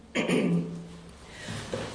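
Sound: coughing fit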